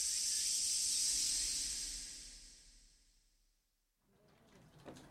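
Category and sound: insect, chorus of cicadas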